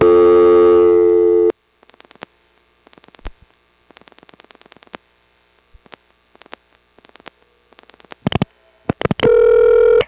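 A steady payphone dial tone cuts off, followed by several quick bursts of dialing pulses in separate groups, a couple of sharp clicks, then a loud, steady telephone tone at the end, as a local call is dialed without a coin from a new ESS office in Brooklyn in 1976. No one speaks.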